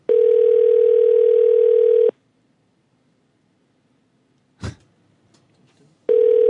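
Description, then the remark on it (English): After a disconnected phone call, a steady, loud telephone dial tone hums for about two seconds, cuts out, a short click breaks the silence, then the continuous tone resumes near the end. “Yeah, we got disconnected.”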